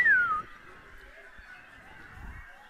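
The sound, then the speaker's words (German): People imitate the calls of eucalyptus forest birds with their voices: a loud, high whistle slides downward briefly, then fainter, wavering high-pitched tones linger over soft background noise. “Dann vielleicht noch ein bisschen, wie klingt's denn in so einem Eukalyptuswald? Wie so Vögel. Könnt ihr das nachmachen?”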